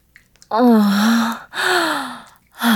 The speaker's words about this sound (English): Are you getting close, mortal? Are you? I can tell. Those shameful little gasps of yours are getting shorter.